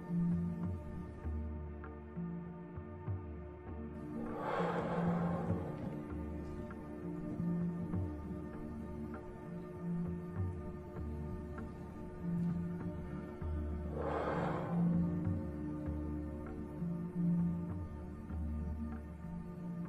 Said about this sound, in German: Wir sitzen aufrecht. Und wir holen jetzt dreimal tief Luft. Atmen tief ein und wieder tief aus.